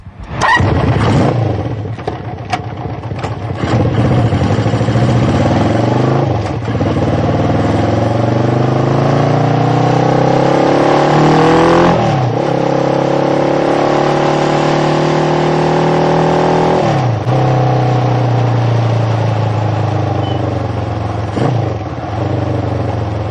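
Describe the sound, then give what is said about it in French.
A loud car engine revs and accelerates, its pitch climbing in repeated surges with brief drops between gear changes, continuing steadily for over twenty seconds with no voices. “C'est une voiture qui peut se transformer en moto.”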